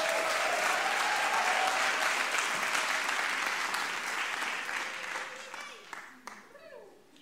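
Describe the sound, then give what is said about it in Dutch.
Steady applause from an audience encouraging the next speaker, a spoken word artist, as she is called forward: a dense wash of many hands clapping at once, loud at first and gradually thinning and fading toward the end. “En laten we haar aanmoedigen met een sterk applaus.”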